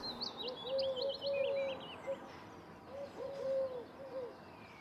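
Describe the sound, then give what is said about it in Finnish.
A Eurasian collared dove, sitting in alder trees at Finbruni, calls twice in a low, cooing three-note phrase, while smaller birds chirp and twitter brightly in the background. “Finbrunin lepissä istuskeli turkin kyyhky.”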